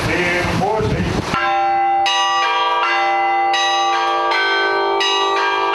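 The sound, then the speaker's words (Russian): Church bells in a church bell tower ring out loudly during Easter week, masterfully rung for young Cossack schoolchildren, several bells struck in a steady sequence of overlapping strikes whose long, shimmering tones sustain and blend; a brief voice is heard at the start. “Юные казачата услышали мастерски исполненный звон.”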